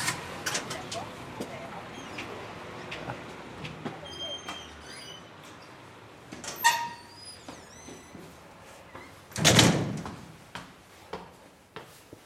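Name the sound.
door being opened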